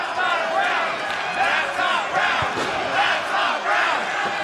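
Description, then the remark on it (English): A large wrestling crowd chants "find a round one" in unison, a loud, steady roar of many voices rising and falling in a repeating rhythm, with scattered shouts mixed into the din. “I think the crowd is chanting, find a round one.”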